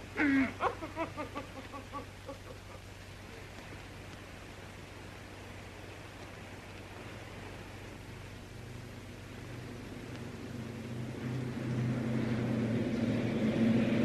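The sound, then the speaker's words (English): A low engine rumble of an enemy armored car builds steadily over a hiss of background noise, growing louder toward the end as the vehicle approaches. A few brief, faint voice sounds come early on. “Armored car coming! Enemy armored car!”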